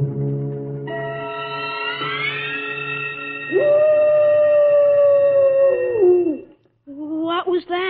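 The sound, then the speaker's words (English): A long, mournful wolf howl rises and holds steady for several seconds before sliding downward, layered over other sustained wavering tones; a brief burst of a different voice-like sound follows after a short pause. “That was merely the soul of a wolf passing by the Kurgatorium.”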